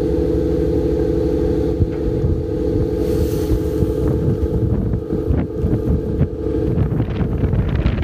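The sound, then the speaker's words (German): A steady low engine drone rumbles across the whole stretch, with wind buffeting the microphone and occasional water splashes, from a small motorboat running on the water. “Ja, es ist ein kleines Motorboot.”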